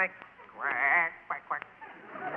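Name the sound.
person imitating duck quacking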